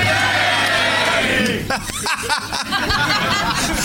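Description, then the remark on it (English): A large audience at Hyenas shouts "hey" back loudly in unison, a dense roar of many voices, followed by scattered yells, whoops and chuckles as the noise breaks up. “A whole audience yelling hey back at me.”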